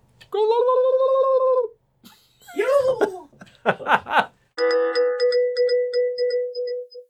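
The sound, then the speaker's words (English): A run of loud turkey gobbles with no other sound: a drawn-out nasal call, then quick warbling, rattling bursts, ending in a long, wavering, pulsing gobble. “There's no one here but us turkeys.”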